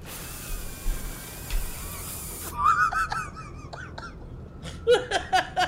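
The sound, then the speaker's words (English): A voice makes a steady, airy hiss like spraying water for a couple of seconds, then breaks into close, choppy bursts of laughter and giggling. “It's like that ice pick water spraying at you.”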